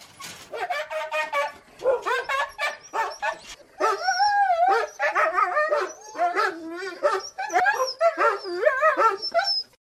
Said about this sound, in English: As you can hear in the background, we are surrounded by sled dogs, and they are setting up our dog sled so we can go dog sledding. They're so cute.